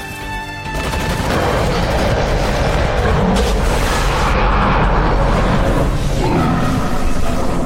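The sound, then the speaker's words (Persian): After a brief quieter start, heavy gunfire erupts and keeps going as a dense, unbroken, loud barrage, with rapid overlapping shots and a deep rumbling underneath. “به نظرم میرسه شدت شلیک اون بزرگتر از چیزی که فکرشو میکردیم، برای همین فرار برامون سخت‌تر میشه.”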